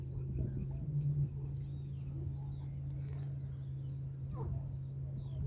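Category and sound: bird, eurasian bittern booming call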